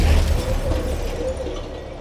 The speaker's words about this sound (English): There is the screaming of metal against metal, the crunch of wood. But despite colliding with the bus, the heavy steel tram is unable to stop. It shunts the bus along sideways, concertining it under the pressure.